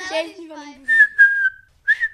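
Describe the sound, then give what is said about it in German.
Someone whistles as if calling a dog: a falling glide, then a long steady high note that breaks and holds, and one short final blast. Fairly loud, no talking. “Wenn ich einen Hund habe, dann mache ich pfeifig.”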